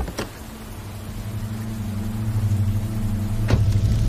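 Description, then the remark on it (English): A car engine hums low and steady, its rumble building gradually as the car drives off from outside a cottage in pouring rain, with two sharp clunks along the way and no voices. “Outside, the car drives off.”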